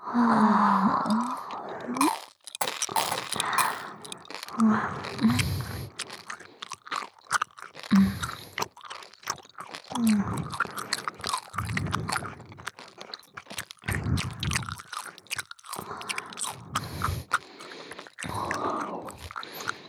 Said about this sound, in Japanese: 左右の耳元でいっぱいくちゃくちゃ咀嚼するからね。